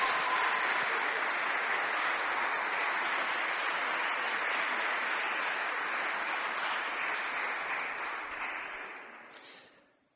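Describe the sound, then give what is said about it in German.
Steady crowd applause as a couple is invited to come up, many hands clapping in a dense, even roar that holds for about eight seconds before tapering off. No one speaks over it. “Und dafür darf man sogar klatschen, ist erlaubt.”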